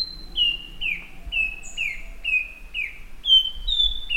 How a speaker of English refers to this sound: One analysis used nearly 250 song examples of the nightingale wren, a tropical American bird widely admired for its haunting song.